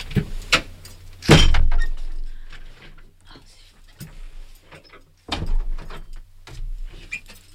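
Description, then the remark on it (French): A door is pulled shut with a loud, rattling thud, followed by a second heavier knock a few seconds later, with small handling noises and a low background hum. “Pardon, je fermais la porte parce que j'entendais du bruit, je n'avais plus où donner de l'oreille, comme dirait l'autre.”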